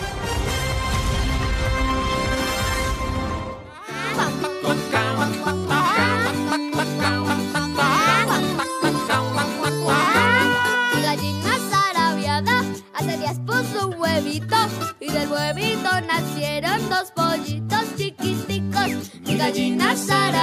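A bouncy children's song about a hen whose egg hatches two little chicks, played on Radio Nacional de Colombia to open a Sunday morning program, loud with a steady beat, bright melodic instruments and a sung tune that continues without pause after a short, dense opening flourish.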